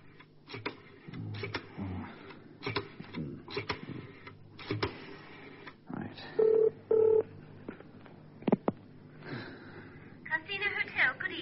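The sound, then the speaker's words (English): A telephone is dialed to make a phone call: a run of clicks and clatter, then two short steady beeps in quick succession, followed by a few more sharp clicks, with faint voices in the background. “Perhaps you haven't, but just you sit back in that seat while I make a phone call.”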